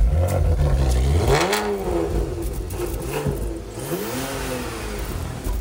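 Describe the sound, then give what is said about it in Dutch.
A car engine, outdoors, sputters to life after being hand-cranked, then revs up and down in loud, uneven surges with a rattling, mechanical clatter and no talking. “Dan heb ik echt trammeland met hem, dus ik ga hem aanslingeren”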